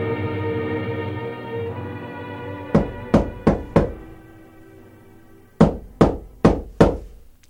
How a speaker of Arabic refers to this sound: وما أن هممنا بالفطور وإذا بصوت الباب يطرق.